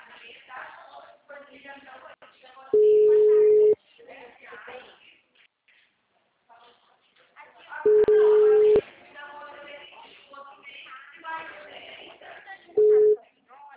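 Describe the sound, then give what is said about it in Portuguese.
Three loud, steady telephone line beeps, two lasting about a second and a final short one, cut through ongoing speech over a phone line, signalling the start of a voicemail recording. “Você só será tarifado após o sinal.”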